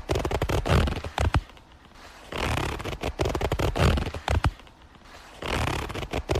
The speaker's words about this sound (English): Is it a zipper? Correct.